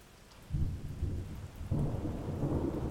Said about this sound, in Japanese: え？雷鳴ってない？ごめん、私、雷だけはダメなんだ。 君は怖くないの？もう笑わないでよ、本当に怖いんだから。だってどこに落ちるかわからないんだよ。それにあんな大きな音。